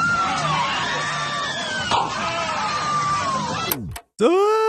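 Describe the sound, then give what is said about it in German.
A crowd of riders screams loudly and continuously over a low rumble on a roller coaster, the well-known Europa roller coaster scream sound effect, then the sound cuts out briefly before another piercing shriek rises. “Und was mir natürlich besonders gut gefallen hat, das möchte ich gerne als Nerd einspielen, ist hier ist der berühmte Europa-Achterbahn-Schrei zu hören. Ich spiele ihn mal kurz ein.”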